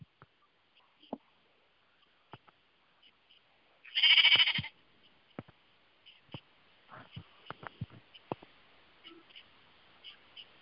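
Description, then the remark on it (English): A single loud sheep bleat rings out near the middle, short and nasal, surrounded by faint scattered clicks and soft knocks in an otherwise quiet setting. “They're using sheep.”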